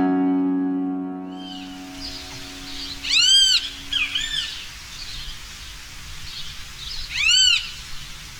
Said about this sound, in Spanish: Luis Bien Te Veo, Luis Grande o Tirano Gritón. De nombre científico Pitangus sulfuratus, del orden Passeriformes y de la familia Tyraninae. Esta ave es grande, de 22 a 25 centímetros de largo, de cabeza muy ancha, pico robusto, largo y color negro.